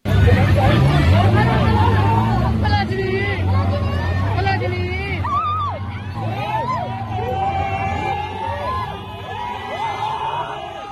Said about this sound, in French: Voilà, vous avez peut-être entendu derrière les cris des manifestants le vrombissement d'un moteur. C'est la Rolls-Royce couleur ivoire du roi et de la reine de Thaïlande.